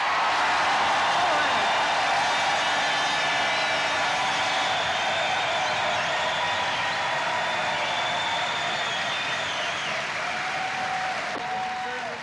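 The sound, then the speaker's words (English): A crowd at a Gay Games tournament final between the women of San Francisco Berkeley and the Dutch Dream Team claps loudly and steadily for around twelve seconds, a dense unbroken wash of applause with cheering voices mixed in, easing off slightly near the end. “Let's hope that this final is just as smashing as your applause.”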